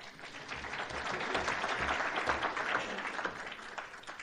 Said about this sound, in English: And yes, applaud them.